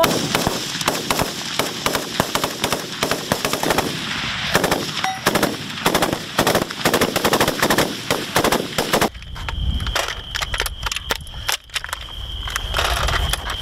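Rapid bursts of automatic gunfire from a video game rattle continuously for about nine seconds, then give way to sparser, sharper shots and clanks over a rumbling background.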